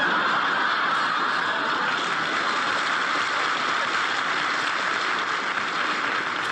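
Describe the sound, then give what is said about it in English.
Water is poured on a duck's back in a steady, hissing rush that stays even and fairly loud for several seconds, with no voices over it. “Why did you do that? Do what? Pour water on a duck's back.”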